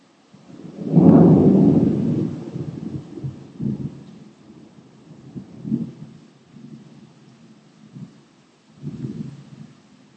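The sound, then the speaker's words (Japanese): A deep roll of thunder swells up and slowly fades, followed by several quieter low rumbles rolling in at intervals, with no voices. “雷が鳴った時にコンセントを脱ぐと家電製品が壊れないの？”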